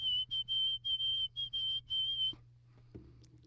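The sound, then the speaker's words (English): A man whistles a quick run of about seven short, shrill notes, each held at the same high pitch, followed by a quiet pause and a faint low hum in the background. “Did you just do that with your fingers and your mouth? I just whistled.”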